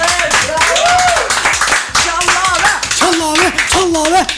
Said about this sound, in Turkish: bu küçük kendi küçücük kulübü bizden bir alkış daha rica ediyoruz.